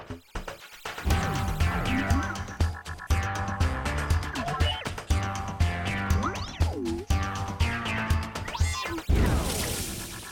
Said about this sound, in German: Alle zuckten zusammen. Rudi hielt nur noch den Stiel des Glases im Greifer, der Rest lag in Scherben auf dem Boden.